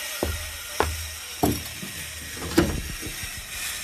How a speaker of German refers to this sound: Ich glaube, du musst dir noch eine zweite Säge kaufen, damit du genug Lärm machen kannst.